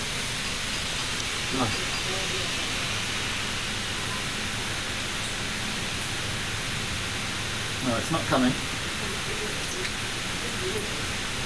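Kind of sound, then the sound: nature, rain falling outside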